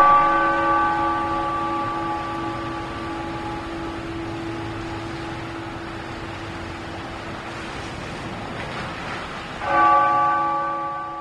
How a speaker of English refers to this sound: These are the bells of the Basilica of St. John the Evangelist, Roman Catholic Church in Stamford.